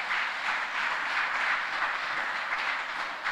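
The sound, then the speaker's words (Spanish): A church audience applauds to welcome a visiting man and his family, a dense, steady wash of many hands clapping at once that holds an even level throughout without any voices. “Démosle un aplauso de bienvenida, de acogida a nuestra iglesia.”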